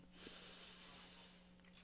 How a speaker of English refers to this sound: Now let's focus in our breathing. Let's take a deep breath in.